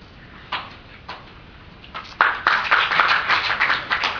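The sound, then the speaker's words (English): A couple of isolated claps ring out, then scattered clapping from several people picks up halfway through and swells into a ragged, moderately loud burst of applause, as a computer science graduate's name is called and he rises at a graduate recognition. “It's hard not to applaud, I know.”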